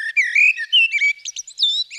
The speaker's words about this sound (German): Die Amsel haben alle schon mal gehört.